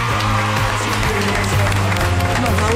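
An audience applauds steadily, a dense wash of clapping that stays loud throughout, with a low sustained hum or cheering voices running underneath.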